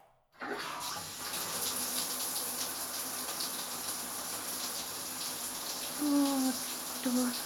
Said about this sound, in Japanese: 前から洗ってあげる。まずは、シャワーで頭を流すね。